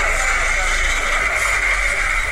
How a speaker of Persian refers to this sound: ماشین های چاپ در یکی از چاپخانه های کابل روزگار بیشتر این ماشین ها روزانه برای ساعت ها فعالیت داشتند، اما با گفته مسئولان چاپخانه ها اکنون شماری از آنها از کار باز ماندند.